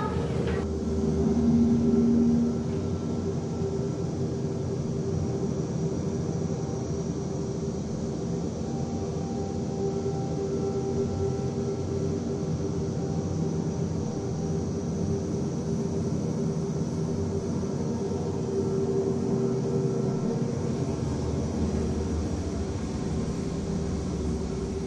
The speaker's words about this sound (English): and it is very composed, and there's a lot of changes throughout the piece, and there's a lot of subtleties, but at first listen, it kind of just sounds like a drone. For some people, it's just noise. For other people, it's music.